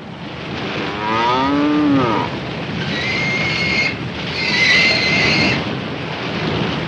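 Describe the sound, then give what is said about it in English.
A cow gives one drawn-out, wavering moo, followed by higher, strained animal calls over a steady rushing background noise as farm animals, most floating with the aid of barrels, are pulled through the water behind a paddled raft; no one speaks. “Later, aboard the packed raft, the family paddles away from the ship, pulling the farm animals along behind them, most floating with the aid of barrels.”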